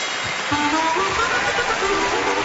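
Steady, dense applause from an audience welcoming a guest fills the whole stretch, a continuous crackling wash of many hands clapping at once with a few higher tonal streaks riding on top.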